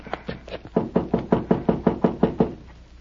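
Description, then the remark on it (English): A steady series of about a dozen sharp knocks on the wooden door of Captain Gardner's office, fairly loud, in quick even rhythm after a couple of lighter taps, with no talking. “He isn't here. We'll knock again.”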